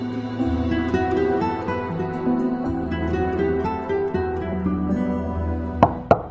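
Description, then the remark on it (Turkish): Three sharp knocks on a door land near the end, distinct, following a long stretch of steady, sustained music with no one speaking. “Çalan kapıyı zar zor açan amca Muhammed'i içeri buyur etti.”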